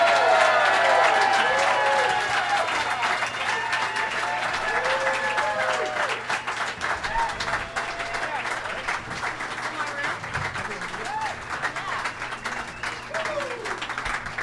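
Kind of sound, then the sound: crowd, audience applause and cheering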